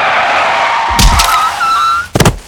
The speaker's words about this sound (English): Whoa, a car. Brilliant.